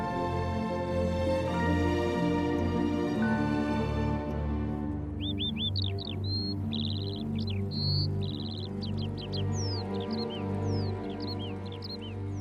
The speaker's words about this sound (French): Alors là, on est repéré par les oiseaux qui se sentent très très bien.